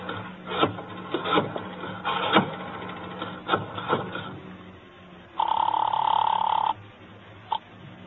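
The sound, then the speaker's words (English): A few seconds of clattering, clicking handling noises, then a telephone bell rings once in a loud, steady burst of about a second, followed by a brief faint chirp. “Well, I leaned over, shook my head a couple of times, got the eyes rolling around until I felt them drop into place, then I found my way to the phone.”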